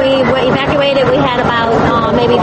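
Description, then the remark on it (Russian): A rescue motorboat engine drones steadily and loudly throughout during a flood evacuation, with a woman's voice speaking over it, partly drowned out by the motor noise. “голос которой едва слышен из-за мотора спасательной лодки.”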